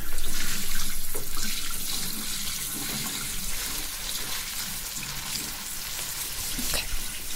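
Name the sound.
running water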